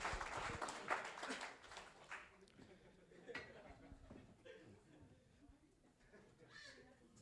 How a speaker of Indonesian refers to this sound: Berikan ini kan, tepuk tangan dong buat mereka berdua.